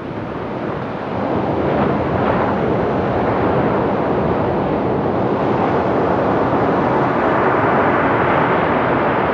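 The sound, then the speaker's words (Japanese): Surf breaks on Isohama beach in Yamamoto town, a steady, loud wash of roaring noise that swells slightly over time, with no voices present. “今日が最終回ということになります。山本町の磯浜海岸です。”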